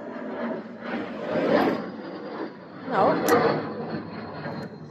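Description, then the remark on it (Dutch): A fighter jet flies in circles overhead, a broad rushing rumble that swells twice and recedes, steady throughout the few seconds. “Nou, weer is die straaljager rondjes aan het vliegen.”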